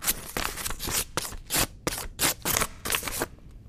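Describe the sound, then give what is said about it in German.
Paper scratches and rubs against paper in a quick series of about eight dry, rasping strokes, fairly loud, with no voices. “Papier kratzt auf Papier.”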